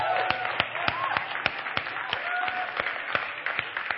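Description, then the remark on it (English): An audience applauds a couple being publicly commended, with sharp claps landing in a steady, fairly quick rhythm over a continuous wash of crowd noise, all at a moderate, even level. “Let's give them a hand again.”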